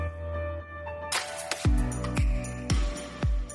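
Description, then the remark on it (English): Music kicks in with a steady, punchy drum beat while a tambourine jingles brightly on top in crisp rhythmic shakes, fairly loud and up front in the mix. “And we're gonna get tambourine here.”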